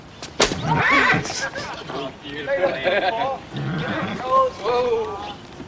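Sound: horse neighing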